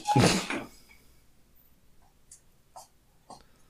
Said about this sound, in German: Ich glaube persönlich, ich mache mal ganz kurz die Tür zu, weil meine Frau läuft, glaube ich, in Zehenspitzen mittlerweile.